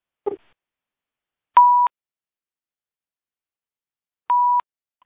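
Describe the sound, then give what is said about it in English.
Two short, clean electronic phone keypad beeps from pressing star 6 to mute the phone, a couple of seconds apart, each a steady tone lasting about a third of a second, preceded by a brief soft click; no one speaks. “I'm going to mute the phone because I'm getting background noises.”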